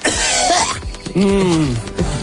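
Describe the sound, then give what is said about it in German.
A few loud coughs during a microphone check, starting with a harsh burst and then a rougher, voiced hacking cough. “Müssen wir jetzt wieder husten?”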